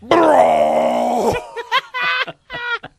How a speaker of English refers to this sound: So here he chugs, he chugs a boot of gravy to get the burp. It's like that's in his side pouch. Let me summon the power for my intergalactic super burp by chugging 2 liters of gravy